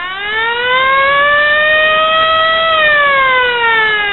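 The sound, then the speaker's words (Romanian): A loud civil-defense style siren wails steadily over a town as a police officer raises the alarm of a coming flood, its pitch rising slowly, holding, then sliding back down, sustained and continuous with no voices. “Polițistul a dat alarma și, într-o clipă, tot orașul s-a deșteptat.”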